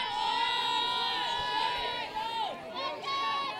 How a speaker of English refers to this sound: Good crowd all the way around here.